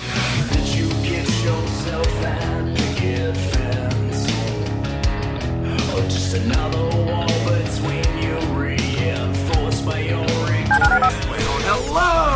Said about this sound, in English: Dial the phone.